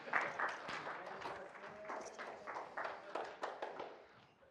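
An audience applauds, a dense patter of many hands clapping at once that holds steady for a few seconds before gradually tapering off.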